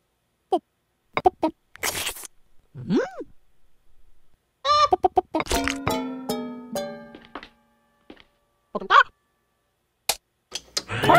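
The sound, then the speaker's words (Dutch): Scattered clucks and squawks from Moe's chicken, which is inside a mixer, coming in short bursts with pauses between, rising into a louder flurry of agitated calls midway through before tapering off. “Oh, Moe, je kip zit erin.”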